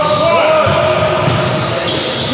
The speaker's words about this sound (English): First of all, Galvin from the Mike Calta Show one time pointed out how annoying a basketball court is. Listen. All that screeching. You never noticed it until Galvin pointed it out.